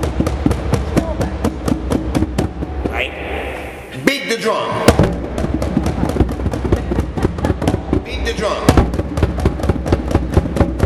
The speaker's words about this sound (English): But I need 13 fast beats. 1, 2, 3, 4, 5, 6, 7, 8, 9, 10, 11, 12, 13. Only when I say beat the drum, I will say it once, and you do it 13. On the bass. On the bass.